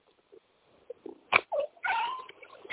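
A cat meows once, a drawn-out call preceded by a few short soft chirps and a sharp tap, with no talking.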